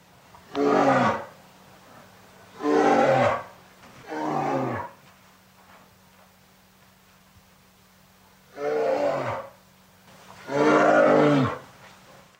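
A bear growls in five loud, throaty roars, three in quick succession, then a pause of a few seconds before two more, over a faint steady hum.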